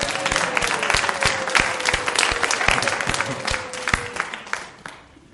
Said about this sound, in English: All right, round of applause for God.